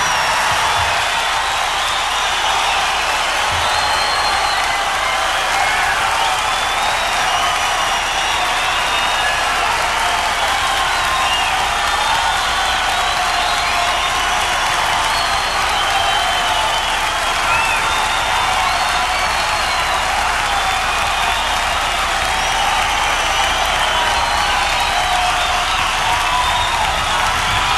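A large concert crowd applauds continuously for nearly half a minute, a dense, steady roar of clapping with occasional whistles and cheers rising above it, and no one speaking.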